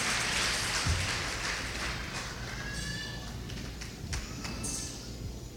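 A crowd claps steadily throughout, giving applause to the Lord, a dense, even wash of applause that holds at a fairly constant loudness, with a few thin, high whistle-like tones rising briefly above it.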